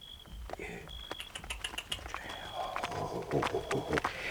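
Hooves clip-clop in an irregular clatter as three more horses approach, the sharp knocks growing busier and closer, with faint high whistling tones threaded through the background.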